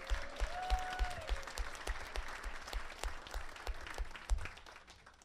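A crowd applauds a retired U.S. Army First Sergeant on Veterans Day, clapping steadily for about five seconds, dense clapping with a few sharper individual claps standing out, and a brief high whistle-like tone early on.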